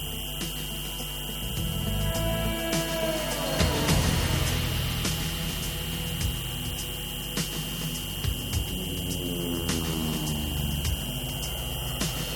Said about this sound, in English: One researcher explains how children living in a region such as northern Pakistan with heavy U.S. drone activity become hysterical when they hear the characteristic buzz